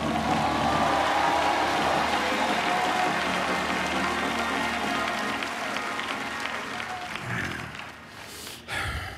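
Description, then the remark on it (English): An audience claps and shouts together in a loud, sustained burst of applause and cheering that holds steady for several seconds, then thins out and fades near the end. They respond to a call to enlist in the army of God. “If that's you, I dare you to clap and shout.”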